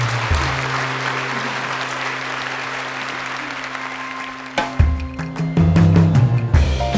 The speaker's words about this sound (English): Let's give her a round of applause here. Thank you. Woo.